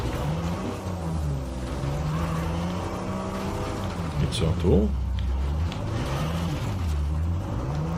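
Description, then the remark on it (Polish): A car drives along with a steady engine drone and one brief surge of revving partway through, while people talk over the motor noise. “No słuchajcie, takiej wycieczki samochodem to się nie spodziewałem.”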